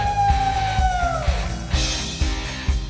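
A crowd cheers and applauds for a band member. A long, high whoop slides downward, then a wash of clapping and shouts rises over a steady, low thumping beat.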